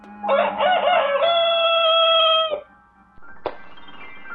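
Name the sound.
rooster crowing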